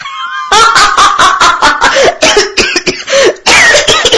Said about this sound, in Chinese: 李卫听了不由哈哈大笑，一边笑一边咳嗽